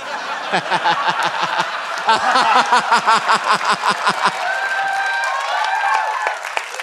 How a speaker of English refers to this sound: Don't clap.